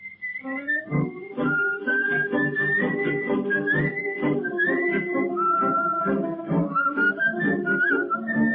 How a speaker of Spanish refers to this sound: ¿Y qué de la interpretación de …? Y la interpretación, las dos interpretaciones, y el silbido que incorpora él, por supuesto, y que le da también un vuelo teatral. ¿No estaba en el original? No estaba en la partitura.